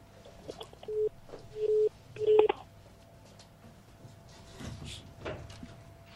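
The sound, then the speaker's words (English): Three short touch-tone dialing beeps sound in quick succession, each a steady electronic tone, followed by soft rustling and handling noise over a faint steady hum. No one speaks. “Let's get back to the phone lines.”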